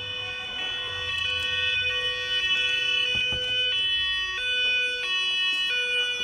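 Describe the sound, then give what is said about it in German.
Police sirens blare in a steady two-tone pattern, the pitch stepping up and down at a regular pace over a low rumble, loud and continuous with no voices. “Und als er gerade die Faust heben wollte, um diesem Wicht mal ordentlich die Fresse zu polieren, gingen plötzlich Sirenen an.”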